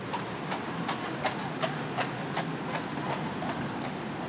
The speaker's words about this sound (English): That horse is going past. Sounded like it, didn't it? Very loudly trotting ones, if they were horses. Almost sort of comedic, half coconut shell type trotting. Glop, glop, glop, glop, glop.